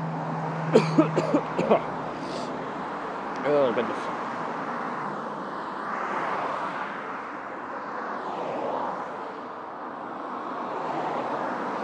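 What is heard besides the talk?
road traffic passing by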